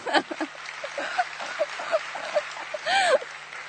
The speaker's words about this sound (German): Und worauf ich super stolz bin, ist, dass er innerhalb von einem Jahr so gut Deutsch gelernt hat, dass er sein MSA geschafft hat. Ein Applaus.